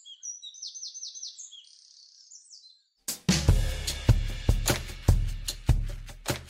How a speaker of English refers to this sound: I love wrens in general. And I love that they're shouting over all of the other birds in the morning.